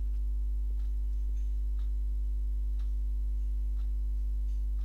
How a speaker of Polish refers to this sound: Słyszycie to, co tak tyka na ścianie? To właśnie pojawił się mój zegar, który mi bardzo, bardzo często utrudniał możliwości jakiegokolwiek nagrania. No i właśnie powrócił. I tak sobie tyka, niestety.